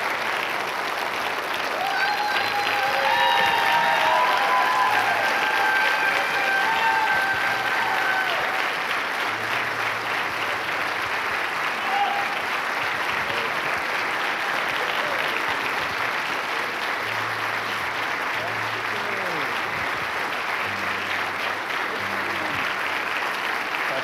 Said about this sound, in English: So we want to somehow thank you. That's all I'd say. Can we give a round of applause? Thank you.